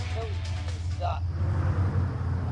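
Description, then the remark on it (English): A pickup truck's engine rumbles low and steady as it pulls up and idles at the side of a rural road in Pennsylvania, with a brief faint voice-like sound rising over the drone. “A pickup truck pulls up to the side of the road.”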